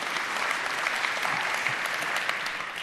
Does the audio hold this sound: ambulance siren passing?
no